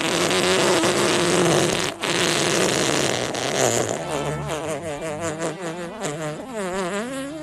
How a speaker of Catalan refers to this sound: Sí, jo vull acabar perquè aquest pet m'ha deixat mal de panxa.